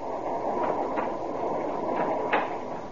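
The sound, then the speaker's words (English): A steady, rumbling roar of a train gaining speed, with faint rhythmic clacks of wheels over rail joints recurring through the noise, continuous, with no voices. “And as the train gained speed, the silhouette of a man was outlined against the lighted door.”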